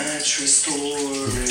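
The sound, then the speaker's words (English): Steady hiss of shower water running, continuous for the whole moment, with a voice sounding over the spray as a song is recorded in the shower. “You can even hear the water.”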